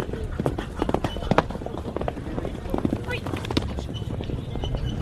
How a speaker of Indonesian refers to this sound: kuda-kuda berlari kencang menyusuri jalur berdebu di kota kecil Pacevo, Bulgaria pada hari Santo Theodorus, yang juga disebut sebagai Paskah Kuda dan dikenal secara lokal sebagai Todorov Dan.